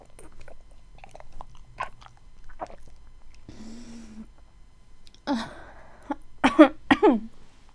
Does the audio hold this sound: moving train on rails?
no